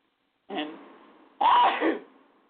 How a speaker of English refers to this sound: And hopefully someone said bless you. Like I said, I can't read what you're saying, but I just sneezed. So hopefully y'all are polite enough to have said bless you to me.